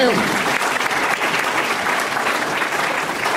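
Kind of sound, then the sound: crowd, audience applause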